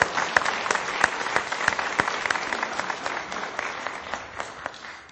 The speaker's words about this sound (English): thank you for allowing us to be on the confirmation journey with you. It's been a joy. It's been an honor. I appreciate all of the good times that we've had and getting to know you so much better. So can we have one more round of applause for that?